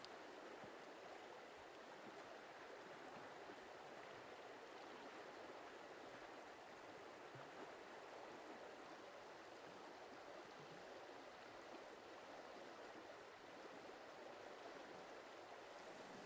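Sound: flowing river water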